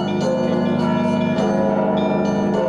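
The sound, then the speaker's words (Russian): Church bells ringing together in a dense, sustained peal at the first international bell-ringing festival "Nevsky Zvony" at the Holy Trinity Alexander Nevsky Lavra, 13 September 2015, with overlapping strikes of several bells at different pitches blending into a loud, continuous shimmering wash. “Колокол – это действительно музыкальный инструмент, тем более, что если он собран, такое своеобразное колокольное пианино.”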